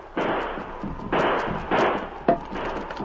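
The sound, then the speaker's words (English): Gunfire aimed at the edge of the woods: four loud, sharp shots at uneven intervals, each bursting out and then trailing off in a rough, rumbling decay, with no voices. “Start shooting. Keep firing at the edge of the woods.”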